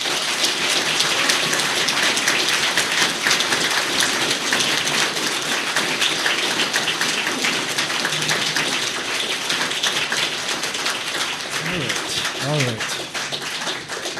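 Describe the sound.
A crowd at a PA conference applauds warmly to welcome a speaker, a dense, steady wash of many hands clapping that stays loud for the whole stretch, with a brief voice or cheer rising through it near the end.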